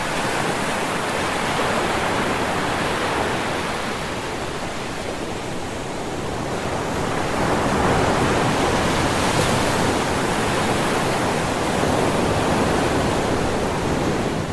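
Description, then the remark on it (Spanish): A continuous, heavy roar of surging water, like large waves flooding over land, dipping slightly and then swelling louder partway through, with no voices. “Entonces ordenó a las aguas que hicieran grandes olas para inundar las tierras y ahogar a los mapuches.”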